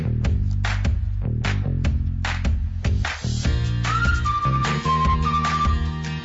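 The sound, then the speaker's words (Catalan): A tune whistled in a thin, clear tone enters over a steady, upbeat band backing with punchy drum hits, its melody moving in a few sustained, gliding notes. “amb aquest xiulet tan característic, com si fos un noi que va en bicicleta pel carrer tranquil·lament amb un temps primaveral”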